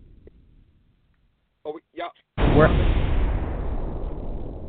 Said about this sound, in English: Yeah, it sounds like a storm is coming.